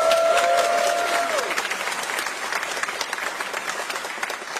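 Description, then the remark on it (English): An audience at a a choir's performance applauds the assistant director steadily, dense overlapping claps forming a loud, even wash that fades slightly toward the end, with a brief high tone gliding downward near the start. “One more round of applause for her.”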